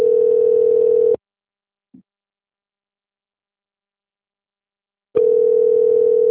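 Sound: telephone call ringing tone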